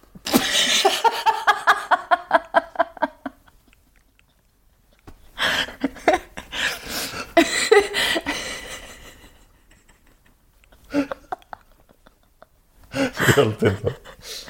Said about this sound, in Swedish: Jag får hicka. Det var en dålig timing att få hicka.